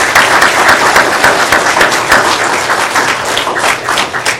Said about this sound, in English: Today, and we can praise the Lord again through clapping, I want to welcome to New Hope Baptist Church